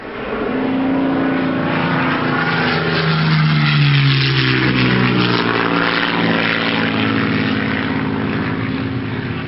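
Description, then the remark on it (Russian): A magical flying-carpet flight sound effect: a loud, steady droning rush like a propeller plane passing by, its hum sliding lower in pitch midway, with no voices over it. “Коли задержала я вас, дам-ка я ковер-самолет, он вас мигом в страну сказок доставит.”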